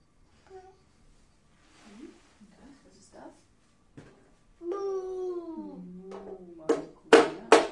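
A child babbles and lets out a long whiny vocal sound, then the child bangs a toy hammer down a few times in quick, loud knocks at the end.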